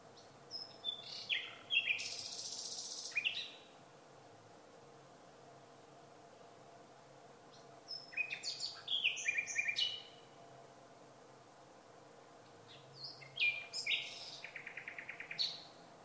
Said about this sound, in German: da hat man herausgefunden, je vielfältiger die Motive sind, die die Nachtigall singt, desto besser kommen sie bei den Weibchen an. Das heißt, wenn also eine Nachtigall nur zwei Motive immer wieder wiederholt, ist das kein besonders tolles Männchen.